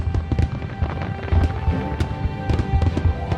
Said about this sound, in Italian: comprò dei razzi illuminanti, dei petardi e tutti i fuochi artificiali che si riuscì a trovare. Li mise nel baule e volò in alto. Poi iniziò lo spettacolo.